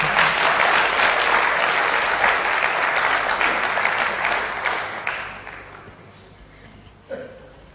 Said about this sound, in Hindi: ब्रह्मा कुमारी बहने कहती है कपड़े सफेद, जेब है खाली, पर चेहरे पे है रूहानी लाली, और हम बन रहे हैं विश्व के माली, इसी खुशी में बजा दो एक बार ताली।